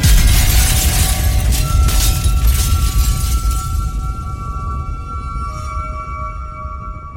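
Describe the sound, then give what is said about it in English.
A glass mirror slips from hands, falls to the ground and shatters: a heavy crash of shattering glass bursts out, followed by a bright, lingering ringing and scattered tinkling of fragments that slowly fades away. No voices are heard. “But the higher they flew, the more slippery the glass became, and they could scarcely hold it, till at last it slipped from their hands and fell to the earth and was broken into millions and billions of pieces.”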